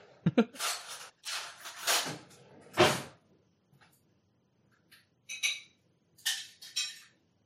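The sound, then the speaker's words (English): Food being prepared for Nectar the cat: sharp clinks of a dish and cutlery, scraping, and a cupboard knocking, in irregular bursts with short quiet gaps. Nobody speaks. “Let me get you your food, big fat spoiled baby.”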